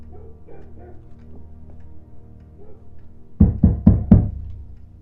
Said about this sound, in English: You didn't ask there. Knock on that door.